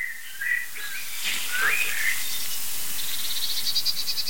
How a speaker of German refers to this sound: Da hört ihr schimpfende Meisen.